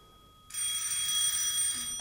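An old-style telephone bell rings loudly and continuously in the morning, waking a sleeper, a bright metallic jangle starting abruptly after a brief quiet moment and sustaining without pause.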